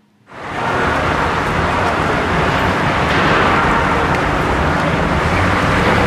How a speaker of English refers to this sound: Okay, this is just the traffic noise, this was probably easy.